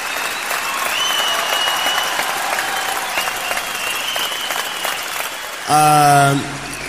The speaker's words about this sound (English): This was my round of applause for Sabon Gary.